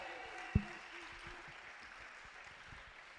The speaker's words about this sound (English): Well, guys, welcome back to the podcast. First ever live audience. Can we get a big round of applause for the podcast audio? Yeah.